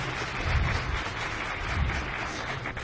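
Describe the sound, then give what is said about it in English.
An audience applauds as a volunteer comes up to help with a VideoJack attack demonstration, many hands clapping in a dense, steady wash of sound that holds at an even, moderate loudness for the full few seconds, with no voices over it. “Round of applause.”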